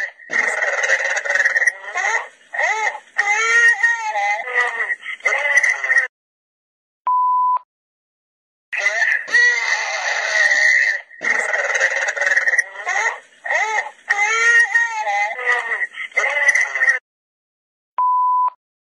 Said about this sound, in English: So I don't know if you could hear that sort of metallic growling.